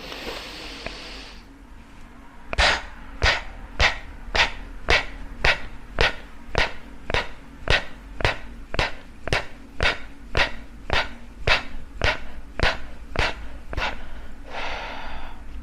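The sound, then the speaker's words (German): A rapid, steady series of about twenty forceful breaths, sharp rhythmic exhalations through the nose or mouth, loud, with a longer breath at the start and end and no talking; a demonstration of a breathing exercise. “Eigentlich atmet man dann meist nochmals aus und wieder ein. Ich zeige es dir mal vor oder mach's dir vor.”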